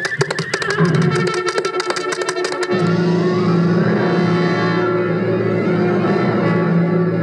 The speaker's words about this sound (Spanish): ¡Caballo!